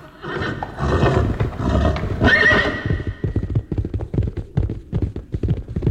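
A loud horse whinny fills the first half, then steady hooves clip-clop in a quick rhythm, clear, with no one talking.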